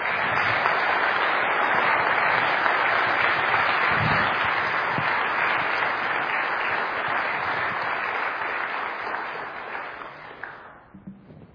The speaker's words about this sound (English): I'm about to sit down, and in a moment I will introduce Dr. James White to open this debate, but as I take my seat, will you please give them both a thorough round of applause.